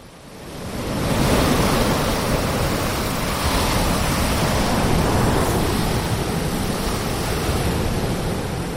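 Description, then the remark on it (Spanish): Ocean waves wash continuously onto a shore, fading in over the first second and then holding a steady, full roar with gentle swells and no voices. “Te cruzan la calle y de repente escuchas y ves la inmensidad del mar y notas los rayos del sol en la poca piel que sale de las sábanas.”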